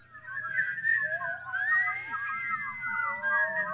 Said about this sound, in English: She was a polyphonic whistler, as you can hear.